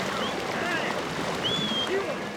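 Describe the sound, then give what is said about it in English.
River water of the Los Pinos River on the Colorado-New Mexico border burbles and rushes on a cold morning in a steady, unbroken wash of noise, with a few faint, thin high-pitched whistles drifting over it. “Only the sound of the river burbles by until, suddenly, 900 sheep and a few goats appear on the mountainside.”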